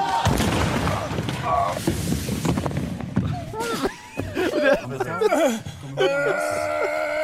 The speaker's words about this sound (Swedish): Ja, alltså han smäller ju rakt in i liksom plywooden som pekar uppåt. Jaha, okej. Okay. Så han kommer ju inte ens ut i hoppet. För då hade han ju landat mjukt. Ja, det här är ju inte... Ja, men det förklarar ju smällen. Ja, för det här är inte mjukt.